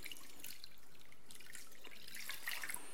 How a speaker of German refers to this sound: Wasser sollte nicht zu heiß sein, dass man sich da die Finger dran verbrüht, sollte aber auch nicht zu kalt sein, weil sonst dauert es relativ lange. Wir haben hier einmal kaltes Wasser, einmal warmes Wasser. Ich mische das einfach mal ein bisschen.